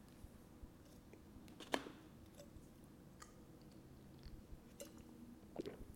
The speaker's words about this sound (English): But anyways, let me take a sip of coffee.